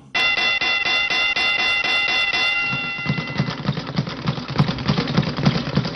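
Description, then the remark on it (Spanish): A boxing ring bell, played on the Radio Martí sports show Deportes 360, rings loudly in a rapid, continuous clang for about three seconds, then gives way to a busy background of clattering noise. No one speaks. “Y esa campana, Pepe, es boxeo.”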